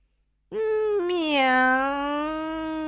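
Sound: cat meowing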